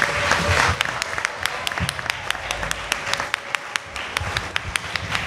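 An audience applauds steadily, a dense patter of many hands with a few sharper individual claps standing out in a quick rhythm, holding fairly loud throughout and easing slightly toward the end.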